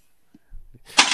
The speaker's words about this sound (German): Oh. Uipsal, jetzt ist das Handy umgefallen. Handy umgefallen. Lassen wir drin.